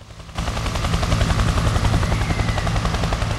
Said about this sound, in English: From a clock reading 20 past 9, to the whirring blades of a helicopter.